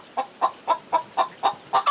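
Hens cluck inside the henhouse where they sleep and lay eggs, in a quick, steady series of about eight evenly spaced clucks, moderately loud, with a slightly longer, brighter call at the end and no talking.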